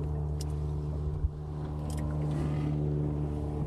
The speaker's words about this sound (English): That boat has come down all the way from Inchigill now.